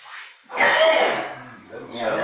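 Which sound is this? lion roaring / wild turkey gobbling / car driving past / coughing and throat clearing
coughing and throat clearing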